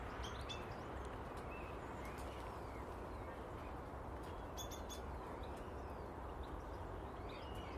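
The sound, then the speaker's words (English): Starlings chirp and whistle from a big tree in the morning, their scattered calls coming in short bursts over a steady outdoor hiss, never very loud. “You can hear the starlings, the stuckies up in the big Lulandi.”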